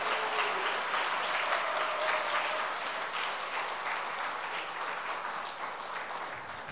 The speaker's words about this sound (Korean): 우리 한 번 더 크게 박수하겠습니다. 예.